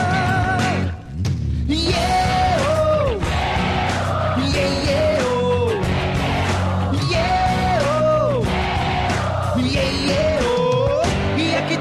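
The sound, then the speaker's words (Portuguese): A loud, dense crowd at a show roars continuously, with rising and falling yells and whoops standing out over the steady wall of cheering for the whole stretch, briefly dipping near the start. “Eu quero ouvir vocês nessa troca de energia. Vai, galera, coração. Quero ouvir a multidão.”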